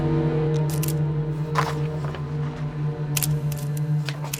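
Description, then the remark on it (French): Several small, crisp shutter clicks from a tiny camera built into a cigarette lighter, photographing a document, irregularly spaced, over a steady low hum. “prend alors le risque de sortir de sa poche son briquet appareil photo et il commence à photographier le document.”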